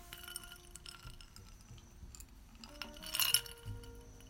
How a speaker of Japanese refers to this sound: 氷の音って良くないですか？